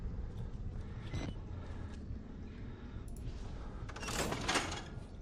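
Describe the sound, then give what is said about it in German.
A door slams shut, with a couple of lighter thumps first and a louder, sharper bang near the end, all over a steady low engine-like rumble. “Knall doch die Tür einfach noch ein bisschen lauter.”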